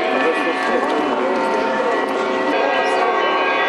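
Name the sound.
large church bell ringing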